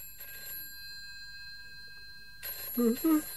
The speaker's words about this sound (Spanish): Un par de días después del vuelo a Londres, en el que conoció a Elizabeth, Jeff está durmiendo cuando suena el teléfono.